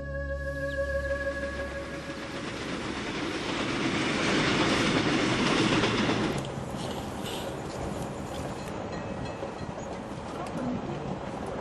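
An express train on the Jakarta–Jogja line rolls along the rails with a steady rumble and rhythmic clatter of wheels, swelling louder midway before settling into a continuous run.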